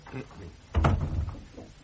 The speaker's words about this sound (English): Come along in. And close the door.